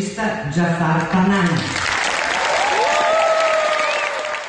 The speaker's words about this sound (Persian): سالن اصلی جشنواره فیلم ونیز به احترام آقای پناهی ایستاده به تشویق او پرداخت.